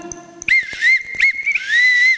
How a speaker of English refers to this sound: Right. Not a terribly good whistle.